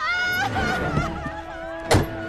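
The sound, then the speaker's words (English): Someone climbs out of a car: soft shuffling and movement, then a single solid thunk of the door shutting near the end, all over a steady background of sustained musical tones. “gets out of the car.”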